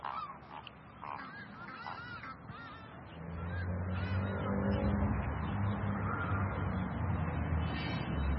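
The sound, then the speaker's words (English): Several geese honk by a river in a loose, overlapping chorus, loud at first, then a steady low rumble builds underneath while scattered honks continue. “So the birds really love it when we clean up. They get a good dinner.”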